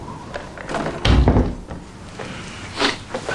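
door being shut

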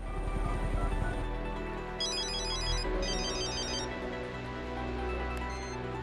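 cell phone ringing

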